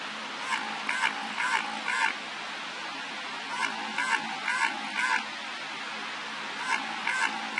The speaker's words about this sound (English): That quacking noise has been recorded several times in the Southern Ocean since the 1960s. The noises always come in sets spaced about 3.1 seconds apart